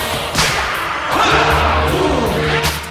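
A few sharp whip cracks snap at irregular moments as a dancer on a stage is whipped by a group of men with whips during a dance performance, over steady, droning music, with dull thuds and a faint crowd murmur mixed in.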